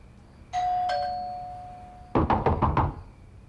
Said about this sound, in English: Was that you? The doorbell? Yeah, that was me. Don't answer that.